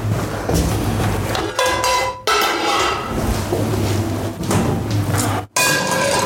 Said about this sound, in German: So, mal eine Pfanne holen.